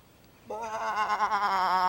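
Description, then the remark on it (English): A single drawn-out sheep bleat begins after a brief quiet pause. It is loud, and its wavering, quavering tone holds steady until the end. “Another one. That makes three sheep.”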